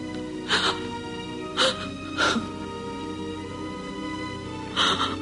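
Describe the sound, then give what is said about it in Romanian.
Someone crying and whimpering in short, shaky bursts, four breathy sobs spaced irregularly over a steady background hum, with no talking. “Nu plânge, prietena mea.”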